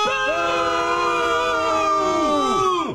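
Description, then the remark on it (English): A steady, sustained dial tone hums without a break for about three seconds, rich in overtones, then its pitch sags and bends downward just before it cuts off. “I'd like you to enjoy this free dial tone.”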